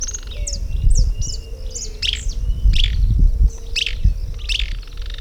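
A Euscarthmus tyrant with a rusty crown calls with a rapid series of sharp, high chirps, roughly seven or eight notes at a steady pace, over a low rumbling background.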